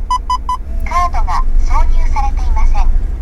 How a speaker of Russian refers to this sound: Праворульный японский мини-фургон. Откуда мне звук? Вот отсюда. Когда кто-то из них заводит машину, она отзывается голосом.